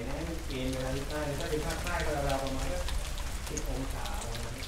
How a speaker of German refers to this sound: Als sich die kleine Gruppe nach dem langen Tag verabschiedet und draußen wieder ein neuer Regenschau begonnen hat,